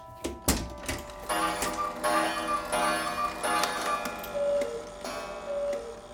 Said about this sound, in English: There are clocks in every room in the house, and the one sort of clock that was missing was a cuckoo clock. And this one turned up about 2 years ago, and it's sort of finished my row of clocks around the house.